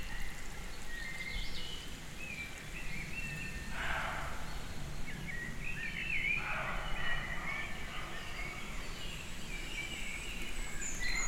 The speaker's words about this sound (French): Chevreuil qui aboie.